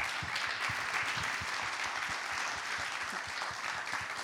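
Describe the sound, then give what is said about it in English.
Steady, sustained applause from an audience for Andy Petrio, weekend host of CBC Sports, a dense wash of many hands clapping at an even loudness throughout, with no voices standing out. “A big round of applause for Andy.”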